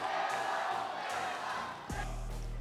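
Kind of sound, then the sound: crowd, crowd shouting and cheering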